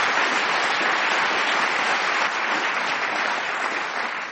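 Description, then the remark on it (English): A large audience applauds loudly and steadily at the mention of Nottingham, a dense wash of clapping with some cheering mixed in, holding at full strength for several seconds before easing slightly at the end. “Sort of thing Derek Nimmer in his youth would get in his aunt's house in Ilkeston, which is not far from Nottingham, which always gets a cheer”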